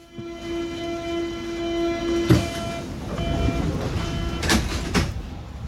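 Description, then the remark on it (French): A metro train in the Mitte district of Berlin, on a grey, rainy day, rumbles along the rails with a sustained high tonal whine, then sharp metallic clanks and screeches around the middle and near the end, with no speech. “Nous sommes dans le quartier de Mitte et à la sortie du métro s'étalent des restes du mur et son mémorial.”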